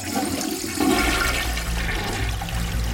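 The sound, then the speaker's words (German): A toilet flushes with a loud, steady rush of water that swells after the first second and keeps gurgling through the bowl, continuous with no one speaking. “Viel zu wichtig, um sie mit dem Drücken der Klospülung zu vergessen.”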